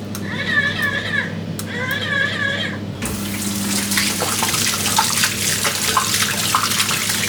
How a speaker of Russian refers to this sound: Чтобы помыть руки, даже не нужно касаться смесителя. Просто прислоните их к нему. Смочили водой